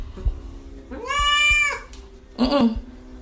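cat meowing

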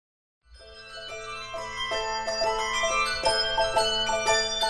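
handbells ringing

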